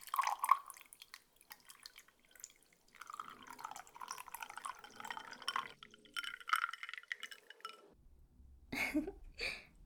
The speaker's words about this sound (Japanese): それじゃあ私のチューハイは君が注いでくれる？